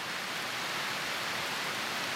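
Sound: rain falling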